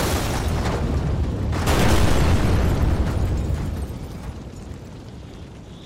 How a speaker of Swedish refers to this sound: Sen måste det ha varit en smäll som hördes över hela stan. När den lilla boden för giftigt avfall flög i luften och exploderade.